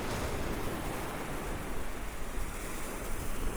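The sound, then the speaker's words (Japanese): Steady ocean surf washes continuously onto a sandy shore, a broad rushing roar with gentle swells in intensity and a hint of wind buffeting the microphone; the icy sea water measures about plus 1 degree Celsius. No one speaks. “こっちも海ですよ先生、この辺、この辺りで、あ、何度だと思いますか？”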